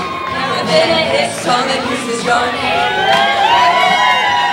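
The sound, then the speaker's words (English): A crowd of women on stage hoots and whoops with rising, excited cries over a steady wash of clapping and cheering, loud, with overlapping voices throughout. “Women on stage hoot and clap.”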